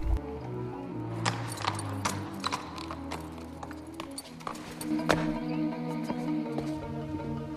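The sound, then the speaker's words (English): Horse hooves clip-clop across the hard courtyard surface of the Imperial Hunting Lodge as a rider arrives at sundown, in a steady, slightly uneven rhythm, over a low sustained hum in the background. “As the sun is going down, Sophie rides into the courtyard of the Imperial Hunting Lodge. A courtier takes her horse.”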